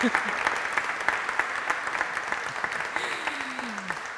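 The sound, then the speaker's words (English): A church audience claps steadily after the preacher wishes a happy Pride from the pulpit on Pride Sunday, many hands producing a dense, continuous patter of applause that holds at an even loudness throughout, with a faint voice briefly audible beneath it near the end. “Thank you for the claps.”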